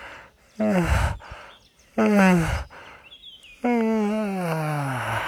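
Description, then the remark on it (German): Three long, drawn-out yawns from a person stretching as a vocal warm-up exercise, each a voiced sliding groan that falls in pitch, separated by short breathy pauses; fairly loud, with a faint chirp in the background. “Wir gähnen und räkeln uns.”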